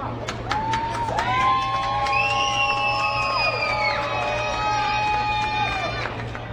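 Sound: ballpark crowd cheering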